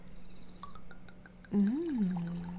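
Wine is poured in a short, gurgling stream that swells suddenly after a few faint drips, over a low steady hum, with no talking.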